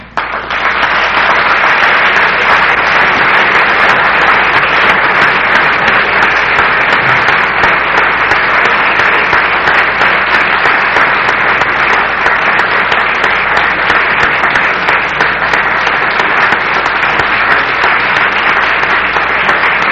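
Sustained applause from an audience after a lecture, a dense, steady wash of many hands clapping at a constant loud level for the full twenty seconds, with no voices above it.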